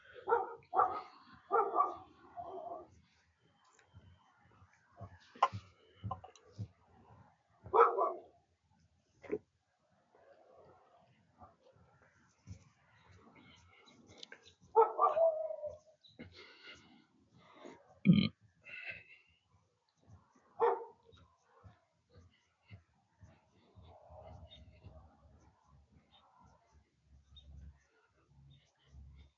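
A male dog barks loudly and repeatedly in irregular bursts, some sharp and loud, others softer, with snuffly grunting sounds between barks and quiet pauses throughout.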